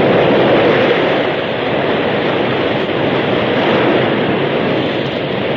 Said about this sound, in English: the flood rushed by. Hungry waves broke at the very feet of the horses.